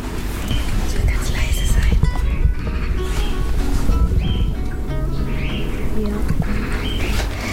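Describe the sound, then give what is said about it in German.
Small birds chirp and tweet in quick, scattered bursts outside a window, steady throughout, while soft whispering voices murmur underneath. “Sind wir also bei Vögeln, dann kommt einer und dann verschwindet der andere wieder.”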